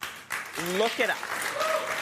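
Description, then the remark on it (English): A crowd applauding a speaker's remark, a steady, dense wash of clapping lasting about two seconds, with a voice or two calling out over the applause. “The fact that the crowd applauded that says a lot.”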